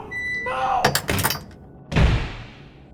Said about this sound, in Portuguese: E com o que restava de sua força, ele empurrou, e com um esforço sólido, selou as portas à sua frente e gritou em agonia enquanto perdia tudo o que amava.